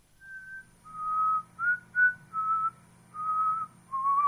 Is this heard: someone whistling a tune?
yes